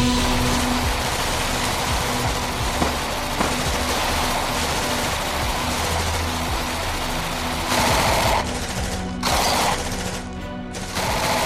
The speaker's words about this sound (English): 8 large cars thundered into view, each carrying 6 gunmen, who jumped down and began to spray the Hawthorn with a mass of boiling bullets that ate the Hawthorn Hotel almost instantly.